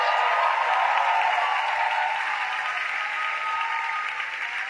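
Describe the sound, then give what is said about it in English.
An audience applauds in a steady, dense wash of clapping that holds for several seconds, then thins and fades slightly toward the end. No one speaks over it. “Oh, you didn't clap very well.”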